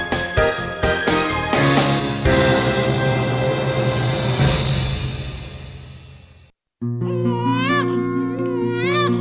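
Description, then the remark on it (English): A swelling musical passage cuts to a moment of silence, then a newborn baby wails loudly, its high, wavering cries rising and falling in repeated bursts. “Of a newborn baby signal the miracle of life.”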